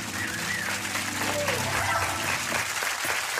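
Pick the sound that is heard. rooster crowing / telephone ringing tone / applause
applause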